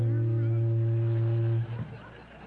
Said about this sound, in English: Next thing you're going to tell us, you're hearing a boat whistle here in Pine Ridge. Well, yes, I was.